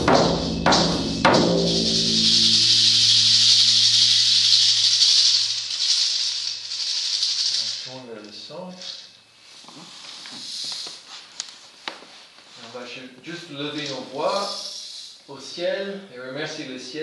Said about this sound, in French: Ciel, fait descendre ces énergies du ciel dans le cercle, le shaker, les voix et les cloches.